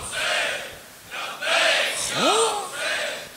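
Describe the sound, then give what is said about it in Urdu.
A crowd shouts the religious slogan "Labbaik Ya Hussain" in unison, several loud rhythmic chanted bursts rising and falling, with one voice swooping upward in a sharp rising cry among them. “میں سوچ رہا تھا کہ شاید کوئی ایک آدمی اب تو نعرہ لگا دے گا لبیک یا حسین کا، مگر نہیں، بھول گئے آپ سب، بھول گئے، کچھ نہیں یاد کسی کو.”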